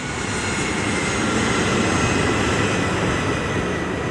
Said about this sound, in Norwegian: Og nå tråkker kaptein Van Santen på bremsene, og du kan høre at motorene begynner å få opp turtallet.